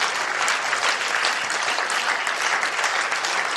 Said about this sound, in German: Halleluja. Wollen wir Jesus mal die Ehre geben und ihm ein Klatschopfer geben?